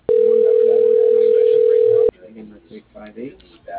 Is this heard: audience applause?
no